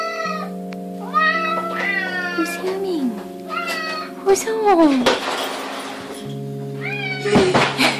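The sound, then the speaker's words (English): A cat meows repeatedly in drawn-out, rising and falling cries, fairly loud, while a person speaks over it with steady background tones underneath. “And speaking of loving yarn, let's talk about cats.”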